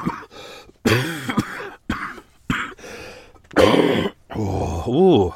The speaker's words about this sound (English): I coughed so hard then I just farted.